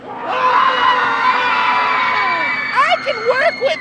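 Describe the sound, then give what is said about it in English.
A group of ride guests scream together in a loud, sustained burst lasting a few seconds as the ride passes the Scarecrow, screaming for undead cowboy mascot Scary Harry, then it breaks into scattered shorter yells and whoops as the collective shout trails off. “The ride passes the Scarecrow, and the guests give a scream for undead cowboy mascot Scary Harry.”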